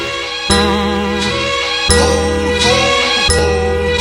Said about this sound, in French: Bling bling, on vient de sonner les cloches.